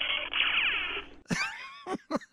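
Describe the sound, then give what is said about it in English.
A Hanna-Barbera cartoon sound effect plays tinnily from a phone: a wavering, warbling tone for about a second, then a few sharp, whiny yowls that slide downward in pitch, fairly loud, with no talking. “He played a Hanna-Barbera sound effect off of his phone.”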